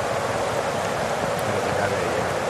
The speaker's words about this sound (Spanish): Mira cómo suena la lluvia cayendo aquí, mira. Pues es granizo.